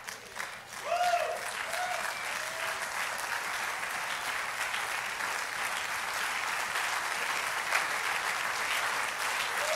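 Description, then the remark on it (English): A church audience claps steadily and continuously in thanks to God during a service, a dense wash of applause filling the room, with faint voices and a few brief whistle-like tones near the start. “I wish we'd clap a little louder right now.”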